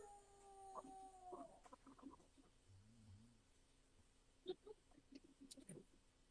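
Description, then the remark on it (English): A dog howls faintly on camera footage, a drawn-out wavering tone at the start, followed by scattered soft clicks and knocks over a quiet, hissy background with no talking. “This is just showing the dog howling and the camera's going crazy.”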